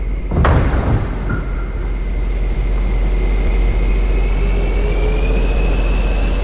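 Large mechanical bay doors clunk and then slide open with a steady, rising motorized whine over a loud, constant rumbling hum, heavy, with no voices.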